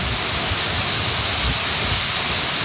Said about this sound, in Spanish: Es el sonido del agua y el barro arrasando las casas de una urbanización, la de Lestona. Estas viviendas se construyeron entre los años 80 y 90 en el barranco del Llop, un lugar que por aquel entonces no sufría inundaciones